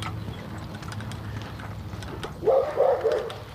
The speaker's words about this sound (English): I kind of feel sorry for all the people who might be trying to sleep in this morning, because, good Lord, these dogs are a mess.